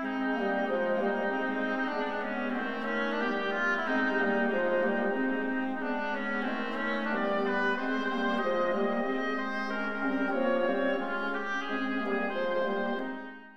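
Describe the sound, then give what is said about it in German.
A reedy, nasal oboe melody portraying a quacking duck, playing a steady flowing line of mid-range notes for about thirteen seconds, with no voices over it. “Die Oboe quakt wie die Ente.”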